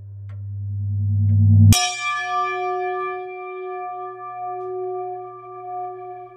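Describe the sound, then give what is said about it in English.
A low droning swell builds for a moment, then a single chime is struck and rings out clearly, its bright, shimmering tone sustaining for several seconds with no voices present. “Spirit chime means spirit time.”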